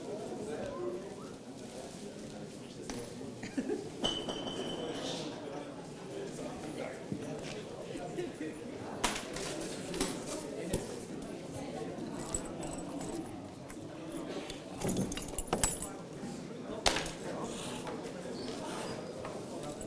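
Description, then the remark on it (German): Green keys for a key puzzle clink and jingle in short, scattered bursts as they are passed along to a player to test, with people talking over the rattling throughout. “die grünen Schlüssel, die da drüben dann rechts”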